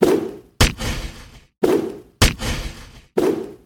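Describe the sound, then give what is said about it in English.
Repeated punch effects for a fist uppercut: a swishing whoosh followed by a sharp, heavy thud, cycling about three times in quick succession, loud with no voices. “Her fist came flying up fast and hard, landing a solid blow.”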